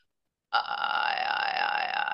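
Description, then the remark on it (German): After a moment of silence, a voice does a hard glottal attack vocal exercise, starting a vowel with a hard, burp-like attack, then holding it loud and steady with a slight wavering for almost two seconds. “Und jetzt kommen wir mal zum harten Glottis.”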